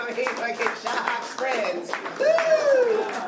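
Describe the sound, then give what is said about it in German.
An audience at the Kremansky stand-up comedy club breaks into steady, dense applause for an audience member wearing headphones, the clapping filling the whole stretch while a voice talks and calls out over it. “Applaus für diesen unheimlichen deutschen Typen.”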